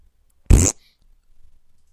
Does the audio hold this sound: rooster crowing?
no